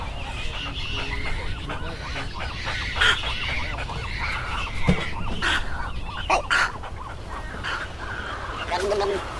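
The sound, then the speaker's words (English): Snowy egrets give bubbling, guttural calls amid a steady chorus of other birds, several rough bursts rising over a dense, continuous background of squawks and chatter. “I wanted to catch that bubbling sound that they make. That that's the egret, snowy egret, but it sounded a little called.”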